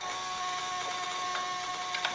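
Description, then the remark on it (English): Ignition coils of an engine buzz as it is turned over in an attempt to start it, in a steady, even electrical drone with a thin high whine on top, broken by a few brief sharper pulses near the end. No one speaks. “So first thing I did, when I turned this over, you hear that buzzing, that's the coils.”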